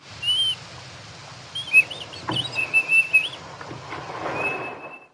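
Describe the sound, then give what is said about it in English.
Slowed-down ultrasonic animal whistles, produced by a whistle within the larynx, recorded with ultrasonic equipment and slowed into the human hearing range: a run of high, sliding tonal calls and short chirps, some rising and falling in pitch, over a low steady rumble with no talking. “So that clip, we recorded with special equipment that's ultrasonic, and then for that clip, I slowed down the vocalizations so that they were within our range of hearing.”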